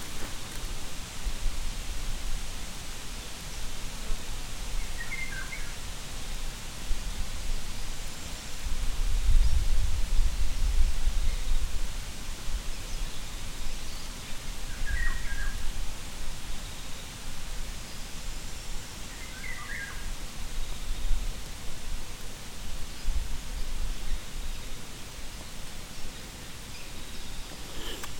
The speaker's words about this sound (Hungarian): A búzaföldeknél mentünk tovább, és bal oldalról telepített erdő van. Fúj a szél, és bejöttünk ide a fák közé, és az egyik fa tövében ülök, és leteszem a földre, hogy mit lehet hallani a szélfúvásból.